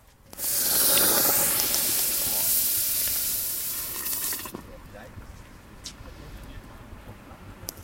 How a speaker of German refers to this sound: So klingt es, wenn man einen, ich würde mal sagen, 1,5-2 Kilo Basaltstein aus dem Feuer in die Würze steckt, um auf welche Temperatur zu kommen? 72, Verzuckerung. Also von 64 auf 72 gehen wir gerade.